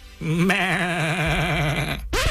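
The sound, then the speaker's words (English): A sheep lets out one long, loud, quavering bleat, its voice wobbling steadily for nearly two seconds before cutting off, then a brief new cry begins. “Is this a city of sheep wizards? Mostly, yeah.”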